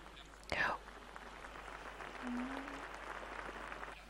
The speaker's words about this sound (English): Thank you very much for that round of applause.